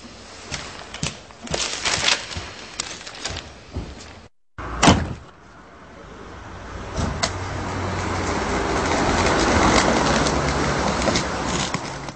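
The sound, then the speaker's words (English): A door shuts with a few wooden clunks, followed by a brief silence and a steady swell of outdoor ambience with pigeons cooing in the background. “Close the door behind you.”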